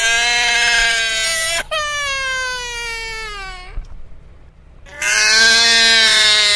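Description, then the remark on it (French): A small child wails loudly at daycare drop-off, three long, strained crying bursts, the middle one falling in pitch, with a brief quiet gasp before the last cry starts again. “Ils sont désormais couverts par les cris de joie des bambins rentrant à la crèche ou en maternelle.”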